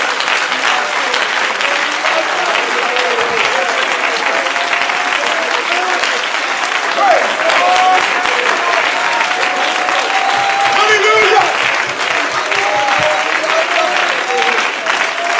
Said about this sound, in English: Oh, would you clap your hands to the Lord right now?